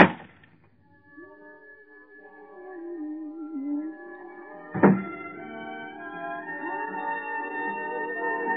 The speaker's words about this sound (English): Behind every unopened door, there is a mystery. And the opening of this door introduces us to another in the series, the key.